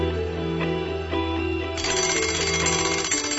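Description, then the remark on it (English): An alarm clock bursts into a loud, bright metallic ringing about halfway through, a continuous rapid jangle over a steady low tonal drone that plays throughout. “We are all dreaming, and the alarm clock rings.”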